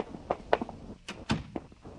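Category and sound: household object, door being closed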